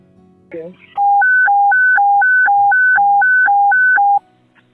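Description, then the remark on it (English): Fire department dispatch alert tones for a rescue alarm at the collapsed Key Bridge: a loud, steady electronic tone switching back and forth between a lower and a higher pitch about a dozen times, preceded by a brief crackle. “Now here's just a few seconds of the fire department dispatch.”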